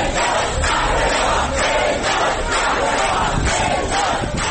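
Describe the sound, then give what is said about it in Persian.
A large crowd chants and cheers loudly in a rhythmic swell, voices roaring together with repeated surges, echoing in the arrival hall of an airport in Tehran as people hail a returning Iranian climber as a hero. “مردمی که در سالن ورودی فرودگاه در تهران او را قهرمان می‌خواندند.”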